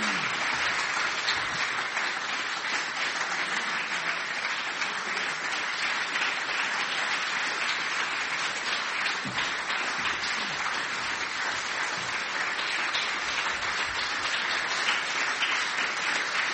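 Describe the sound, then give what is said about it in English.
Sustained crowd applause for two people being thanked and given a gift: a dense, steady wash of many hands clapping at an even loudness throughout, with no pauses and no voices standing out. “It's really noticeable when you're up here and you're waiting to lead on to the next thing, how you realise how long the clapping's going on.”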